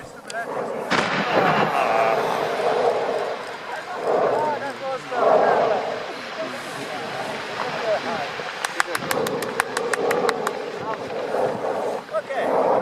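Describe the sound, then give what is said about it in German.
Mount Etna, Europe's largest active volcano, over 3000 metres high, erupts in May, rumbling and booming with deep blasts, while a crowd applauds the eruption, cheering and clapping as people talk excitedly; a rapid run of sharp cracks bursts out near the end. “Hör mal hier zum Beispiel den Ausbruch, der ist von diesem Jahr im Mai.”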